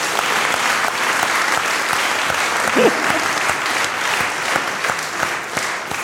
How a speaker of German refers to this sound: Euer Applaus.